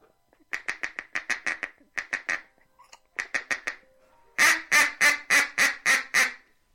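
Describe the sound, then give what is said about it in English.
A brand-new, fairly inexpensive duck call blown in a rapid feeding chuckle: quick bursts of short, clipped co-co-co notes in several clusters, ending with a louder, slower run of about seven raspy quacks, clear. “That co-co-co-co-co sound, is that? That's a feeding chuckle.”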